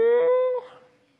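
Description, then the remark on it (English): A single short, loud moo, likely a person imitating a cow's lowing, held steady for about half a second before breaking off and trailing away into quiet. “Then what's all the bleating of sheep and goats and lowing of cattle that I hear?”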